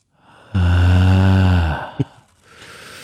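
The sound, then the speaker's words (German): A loud, heavy breath pushed out in one long, throaty exhale lasting about a second, taken while crocheting, with no talking, followed by a single short click and quiet background noise. “Jetzt das Haken zusammen und jetzt nochmal atmen.”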